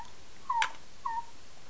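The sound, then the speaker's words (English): A cat gives two brief, soft meows, the first a little stronger, spaced about half a second apart against a quiet background with no talking. “There's a kitty cat over there.”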